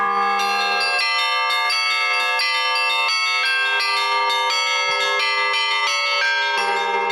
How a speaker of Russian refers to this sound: Колокольному звону, молитве в звуке, присуща особая целительная сила. Не зря раньше колокольным звоном лечили моровые поветрия.